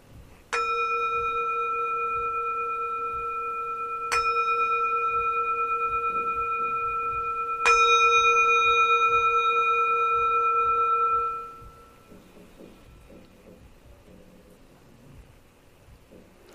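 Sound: meditation bell ringing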